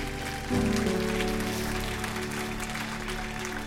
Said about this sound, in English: How many of you believe that God knows what's best? Put your hands together and clap it for me so I can hear you.